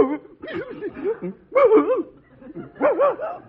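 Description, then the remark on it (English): A big St. Bernard dog barks and yowls in three loud bursts, each a run of wavering, throaty, mid-pitched calls that rise and fall, with brief pauses between them. “This St. Bernard is as intelligent as I am.”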